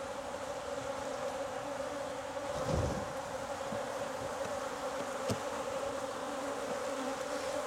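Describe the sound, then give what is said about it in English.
A drone honeybee buzzes steadily during a beehive inspection, a low droning hum with a strong tonal band, holding continuously for several seconds with a brief louder swell partway through and no voices. “It's a drone right here. Oh, that's a drone.”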